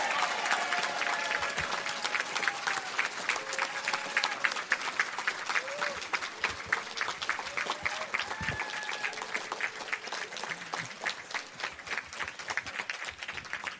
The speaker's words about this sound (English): But if he's listening on the radio, would you give him a big applause and yell out?